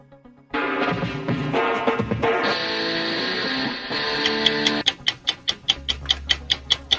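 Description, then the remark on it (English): Game show countdown timer music for a contestant's 60-second round starts abruptly with a bright, busy instrumental phrase, then shifts into a steady run of loud, evenly spaced ticks like a clock counting down, with no voices. “your time begins when Paul plays our music.”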